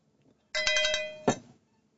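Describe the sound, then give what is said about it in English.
A small llama bell is shaken, a quick cluster of bright metallic strikes ending in one louder clang that rings out and fades; no voices are heard. “Oh, Brother Deacon says, okay, you can have a cowbell for the, or llama bell for the Lindsey Graham crack.”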